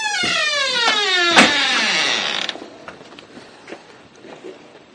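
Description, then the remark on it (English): A breezeway door next to a garage swings open to go outside with a long, loud creaking squeal that slides downward in pitch, a few clicks and a thud along the way, then quieter shuffling as it settles. “And for those who are listening, we're coming out my breezeway door, which is right by my garage.”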